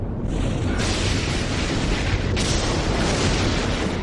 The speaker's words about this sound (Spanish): Este calor se expande por el aire circundante que explota hacia afuera en forma de trueno. Es el sonido del relámpago.